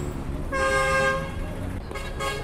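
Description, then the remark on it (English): Car horns blare in a stalled traffic jam in Lagos, Nigeria, with gridlock across many lanes: a long, loud honk followed by shorter overlapping toots, with a low rumble of idling engines and street noise underneath. “This is a typical traffic jam in Lagos. Vehicular movement has come to a standstill and the resultant gridlock in many lanes stretches for miles.”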